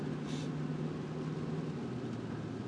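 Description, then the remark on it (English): Rain heard from inside a moving car being driven to work in Oregon: a steady, even hiss of rainfall layered over a low, constant engine hum, with no voices and no change in level. “As you may hear, it's raining.”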